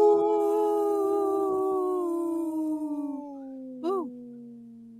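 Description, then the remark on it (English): A person's voice imitates a wolf howl: one long, loud, sustained tone sliding slowly downward in pitch over several seconds, ending with a short rising-and-falling yip. “Very strong, healthy wolf right there. That was a long breath.”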